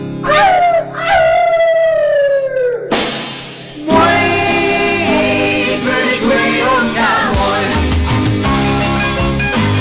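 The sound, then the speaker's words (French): Long, wavering howls at the moon in the evening from a prison cell, with a slowly falling pitch, loud and drawn out, followed by a dense burst of layered sustained tones that carries on to the end. “Et le soir, dans ma cellule, à la lune, je hurle.”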